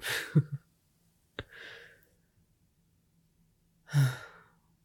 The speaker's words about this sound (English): No, another yawn. Yeah, I'm sure you're not tired at all.